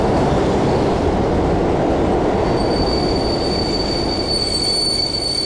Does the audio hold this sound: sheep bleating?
no